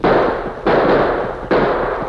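gunshot

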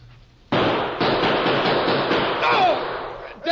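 gunfire

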